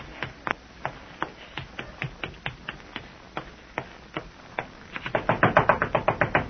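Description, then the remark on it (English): Knocking on a bedroom door: a steady series of sharp raps at a moderate pace, then a quicker, louder flurry of pounding toward the end, with no voices. “Who is it? It's me, Larry. Open the door or I'll kick you down.”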